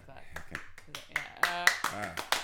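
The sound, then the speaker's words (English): A string of sharp, irregular side claps of the hands, about eight crisp slaps, rings out over voices and laughter that swell and fade between them. “I had to do a side clap.”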